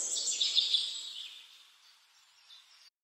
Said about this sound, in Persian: افتاده رو سنگا کنار رودخونه، صدای پرنده ها میرسه به گوشم